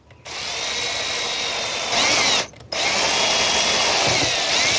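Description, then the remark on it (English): A power drill whines steadily as it bores down into a plastic part of an object clamped in a vise, rising in pitch as the bit bites, pausing briefly, then running again in a second sustained burst. Loud, with no talking. “Okay, so I am gonna stick this thing in a vise and drill down into the plastic thing that's holding it.”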